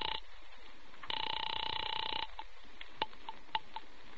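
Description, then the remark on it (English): A telephone in a hotel apartment, rung by the hotel operator, rings in a single sustained burst of just over a second, preceded by a brief clip of ringing, followed by a few faint clicks against a quiet hiss. “I'm ringing Miss Blake's apartment.”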